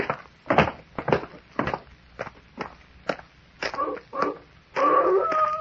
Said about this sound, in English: Huh? What's that? Sounds like a wolf. That ain't what the wolves sound like down in California. You're thinking of the Hollywood kind. This is a real McCoy.